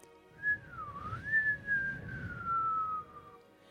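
A close, clear human whistle wavers up and down in pitch for about three seconds, sliding through a drawn-out melodic phrase with no talking around it.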